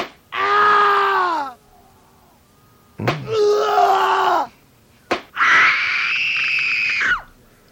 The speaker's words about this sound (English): Well, I know, and screams happen at this borderline of pleasure and pain, and and we do encourage people to invite their friends or into the scream room